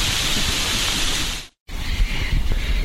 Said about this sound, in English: hopefully this rain will abide